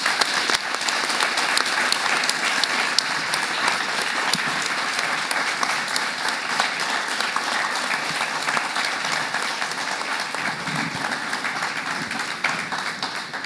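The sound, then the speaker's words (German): A large audience applauds steadily, a dense wash of many hands clapping at once, loud and sustained for the whole stretch with no voices breaking through. “Und das ist dein Applaus.”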